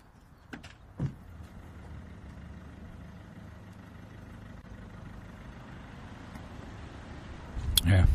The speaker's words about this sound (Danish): Så kører de. Vi skal lige sige, det er forsvaren, der kører bilen. Det er en lille bil. En meget stor forsvar, en lille bil.